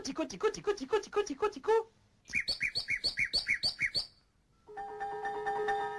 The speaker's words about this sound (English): Et voici le rossignol. Il éclate tout d'un coup brusquement. This is Messiaen talking about the nightingale and the two distinct sections of its song. The percussive opener.